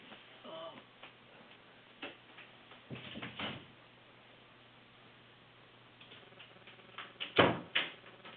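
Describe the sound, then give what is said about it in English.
A pet's footsteps tap irregularly across a hard floor as it walks around looking for its owner, a scattering of light clicks that grow a little louder toward the end, over a quiet background hum with no talking. “Can you hear that tapping in the background?”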